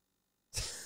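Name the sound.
cough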